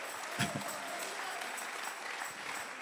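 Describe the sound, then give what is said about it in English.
A church audience clapping their hands together to bless God's name, a dense, steady wash of many overlapping claps at a fairly loud level, with no voices standing out. “Oh, let's clap our hands and bless his name.”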